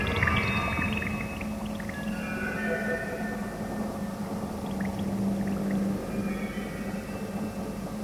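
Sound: diving into water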